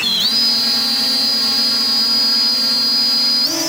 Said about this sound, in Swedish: En liten drönare lyfter mot himlen vid ett övningsfält utanför Karlskrona.